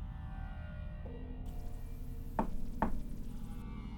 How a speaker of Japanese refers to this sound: ドアの向こうの玄関からノックが聞こえた。 ごめんください。